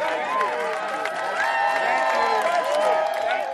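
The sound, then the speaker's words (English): A crowd of supporters applauds and cheers steadily as protesters march into the General Assembly building, scattered claps blending with a dense wash of raised, whooping voices that holds at a fairly even, lively level throughout. “To applause, they march into the General Assembly building.”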